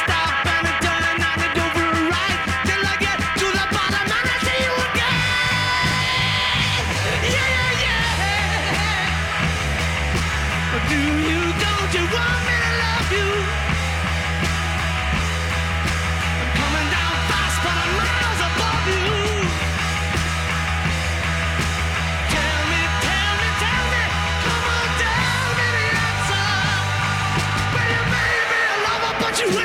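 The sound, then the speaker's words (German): A loud, raw rock song with heavy distorted guitars, pounding drums and a hoarse, shouted lead vocal driving it along at full volume the whole way through; at the end the drummer screams that he has blisters on his fingers. “einen rotzdreckigen Song gemacht”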